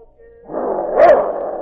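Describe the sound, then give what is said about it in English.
A dog, the great dog Yukon King, lying inside the doorway of a hut, gives a low, steady growl that swells into rough snarling, with one loud, sharp bark near the middle before the growling carries on. “Sergeant Preston was awakened at first by King's growl.”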